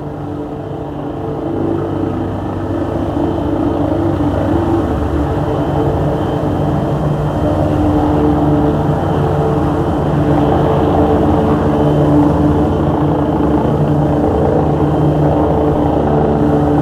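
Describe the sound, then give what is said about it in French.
A private airplane's engine drones steadily in flight toward Orly, loud, with a low rumbling tone that never changes pace and no voices present. “Ensuite, dans l'avion, direction Orly.”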